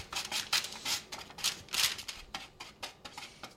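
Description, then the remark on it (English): Nuts rattle and scrape across crinkly greased parchment paper in a quick series of dry rustling bursts as they are poured and spread out into a single layer for roasting, with no talking. “And I'm going to pour them, put them onto your greased parchment paper, and spread them out so they're a single layer.”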